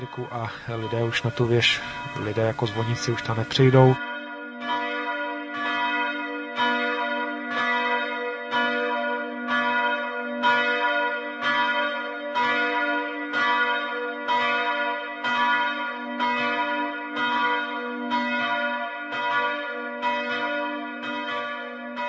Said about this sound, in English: In Bohemia and Moravia, many bells have been authentically preserved together with oak yokes and original forged clappers.